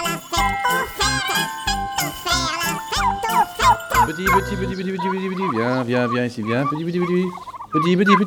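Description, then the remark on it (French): A turkey gobbles loudly, a fast burbling rattle of throaty bursts, followed by several drawn-out, wavering calls over the remaining seconds. “Et un jour, peut-être, nous nous retrouverons, chère dinde, dans le paradis des dindes.”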